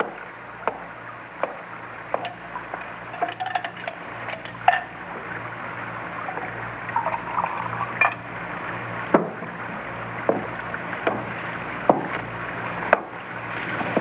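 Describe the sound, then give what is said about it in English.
A cocktail with a dash of bitters is mixed and poured: scattered sharp clinks and knocks of glass and utensils at an uneven pace over a steady hiss, moderately loud, with no voices. “Add a dash of bitters, would you? Well, hurry up, man.”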